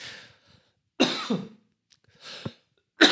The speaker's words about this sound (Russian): А вот и кашель, который у меня уже 3 года.